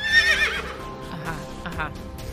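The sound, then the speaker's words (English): A horse whinnies loudly as it steps in through an automatic door off a corridor, a bright trembling neigh that wavers and fades over about two seconds, with a faint hollow clatter beneath it. “And in steps a horse.”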